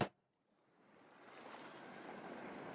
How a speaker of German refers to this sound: lass dich hineinfallen, lass dich führen und verführen von dem Meeresrauschen im Hintergrund.